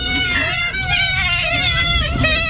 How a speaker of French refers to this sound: Oh là là, vu le bruit, je dirais des chatons. Ah non, c'était des loutres. Aïe. Récoutons les loutres.